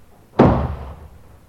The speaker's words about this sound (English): Then a door banged.